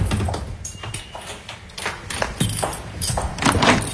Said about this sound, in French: Bien fermer la porte.